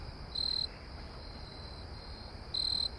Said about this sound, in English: The katydids are high in the trees, but you can get close to some crickets. See this cricket here?